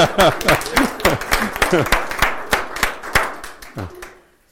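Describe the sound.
Audience applause: brisk, uneven handclapping from a crowd with a few voices mixed in at first, fading out after about four seconds.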